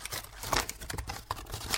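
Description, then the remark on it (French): Crumpled paper being smoothed out, with dry crackling and crinkling in quick irregular bursts, moderately loud, lasting the whole short stretch with no voices. “Et ensuite, on le défroissait.”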